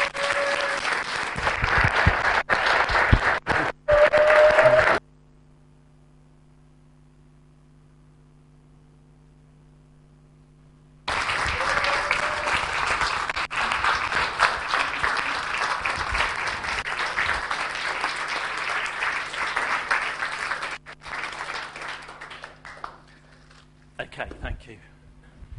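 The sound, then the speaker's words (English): A church audience stands and applauds a couple for their years of service in a dense, steady roar of clapping. It breaks off into near silence with a low hum, then resumes for about ten seconds before fading out with a few scattered claps. “So now, church, I want you to stand, and I want you to applaud this couple for what they have done and served you over these years.”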